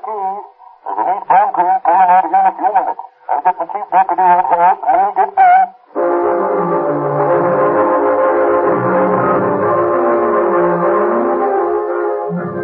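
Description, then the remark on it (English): A train climbing through the Cajon Pass rumbles steadily along the tracks, a loud continuous roar with a droning hum, following a few seconds of bright, wavering tonal blasts. “As the three Los Angeles detectives climb through the Cajon Pass aboard one train, Sheriff Mahoney and his deputy rumble across the desert on another.”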